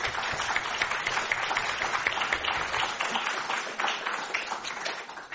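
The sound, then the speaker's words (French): An audience applauds steadily after two speakers are thanked, marking the end of the first part of the session, a dense wash of many hands clapping at once that holds at an even, moderate level for about five seconds before easing slightly at the end. “Voilà, cet applaudissement marque la fin de la première partie et nous pouvons entrer dans notre débat.”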